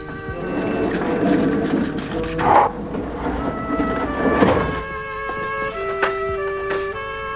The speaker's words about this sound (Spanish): Sale de la cámara y cierra una verja de hierro y una puerta con múltiples cerrojos.